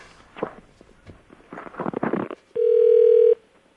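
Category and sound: signal or alarm, telephone ringback tone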